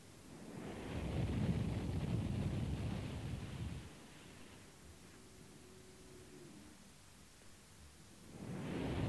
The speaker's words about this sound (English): We'll listen to a little bit of ocean sound to help us strengthen the experience, and then we'll sit in complete silence for a little while.